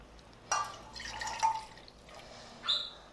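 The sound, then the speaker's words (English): One cup of water is poured into a small cooking pot for the stove in a few short, splashy bursts with drips in between, fairly quiet, with no talking. “On the first utensil, I'm going to go get it. So it's a small utensil. I'm just going to place my water, which I said was 1 cup.”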